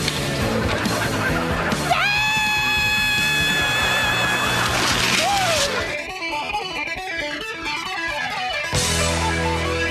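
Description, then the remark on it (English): A loud, sustained scream rises and holds for several seconds over a rough, rushing background as someone rides a traditional wooden toboggan, followed by a warbling, sweeping noise as the run continues. “Today we'll be using a traditional wooden toboggan. Remember when you make your run to keep your hands and feet in at all times.”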